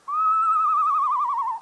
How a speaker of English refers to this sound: They have such a wide variety of sounds. They sound like a horse. Like the eastern screech owl.